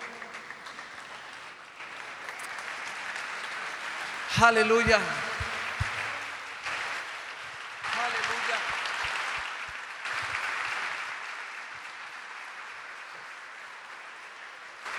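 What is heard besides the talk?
audience applause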